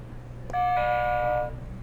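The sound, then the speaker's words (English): The buzzer chime of Jibo, a social robot, sounds once, a steady mid-pitched tone with buzzy overtones holding for about a second before cutting off, over a low background hum. “Can we hold off on the buzzer for a second?”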